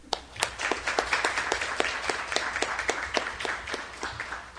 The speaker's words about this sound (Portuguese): Então, por isso eu peço uma salva de palmas pra gente.